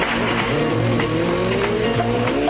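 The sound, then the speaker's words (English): Radio 1 producer Johnny Beeling's motorbike engine revs loudly as he rides off to gather road reports. Its pitch climbs through gear changes as it pulls away, with a steady rumbling drone throughout and no voices. “My producer, Johnny Beeling, around about this time every morning, he goes round on his motorbike all over Britain and brings back road reports.”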